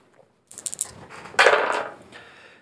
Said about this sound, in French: Deuxième technique, vas-y, avance-toi, lance les dés, fais un geste sous ton intelligence.